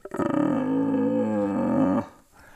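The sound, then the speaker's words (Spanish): A person imitates a red deer stag's rutting roar as a locating call to a stag hidden in the forest: one loud, sustained, throaty bellow lasting about two seconds, then cutting off abruptly into quiet. “luego hay otras veces que igual tú berreas no para traerte el venado, pero al final el venado está en el bosque, no sabes dónde está y haces un berrido de posicionamiento.”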